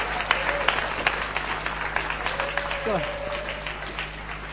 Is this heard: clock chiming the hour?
no